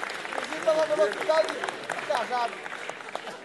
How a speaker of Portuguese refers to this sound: uma salva de palmas pro compositor.